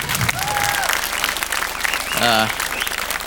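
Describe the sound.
A crowd breaks into steady, dense applause lasting a few seconds, with a short rising whistle early on and a brief voiced cheer rising above the clapping near the end.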